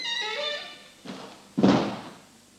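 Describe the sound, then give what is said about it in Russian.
A door creaks on its hinges, then a light clunk and a heavier close thud follow as it is shut and locked behind someone leaving, with no voices. “замкни за ним дверь-то.”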